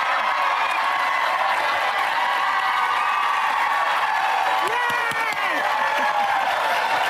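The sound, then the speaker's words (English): A large crowd cheers and applauds continuously, a dense wash of clapping with shouts and whoops rising over it, steady and loud throughout. “And the crowd goes wild for news that never happened, because it never happened.”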